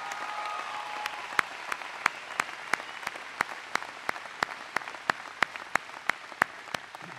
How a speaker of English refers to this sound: Your own star here in Montana, the great governor of this state, please give Brian Schweitzer and his lovely wife Nancy a big round of applause.